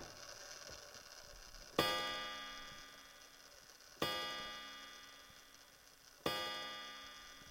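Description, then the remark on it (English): A grandfather clock sounds three slow, resonant strikes about two seconds apart, each ringing out and fading gradually over a quiet background hum, with no voices. “At that very moment, the grandfather clock struck 1 o'clock.”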